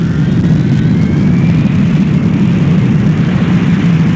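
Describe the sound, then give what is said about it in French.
A loud, continuous roar of an airplane taking off, with heavy low engine rumble and a faint whine slowly rising above it, holding steady throughout with no voices. “Pour le vol 310 à destination de Bangkok, sont priés de ne pas se déranger, l'avion est déjà parti.”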